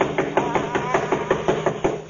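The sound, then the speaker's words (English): Hard, rapid knocking on the door of a windowless place where someone is playing music, about nine sharp raps in a steady rhythm, heard over a continuous humming tonal background. “I'll do the knocking.”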